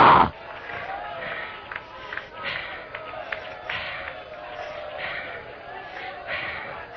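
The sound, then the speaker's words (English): An audience shouts hallelujah and calls out together in a steady, overlapping roar of voices, with a sharp loud burst at the start and repeated swells of exclamations throughout. “Have your way, Holy Ghost, in everybody right now that's shouting hallelujah.”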